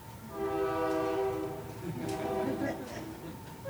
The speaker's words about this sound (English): I want you to listen to me really, really closely as the train is buzzing by. I'm going to give it a second.